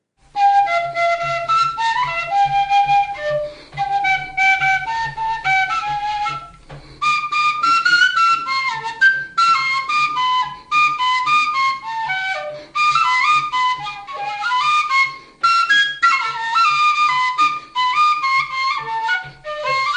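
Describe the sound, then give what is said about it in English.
A bright penny whistle, played at home in Sibokeng, plays a lively, continuous melody of quick, bouncing notes over a low, steady accompaniment, with a brief pause before the tune resumes at full volume. “This one had me on a penny whistle”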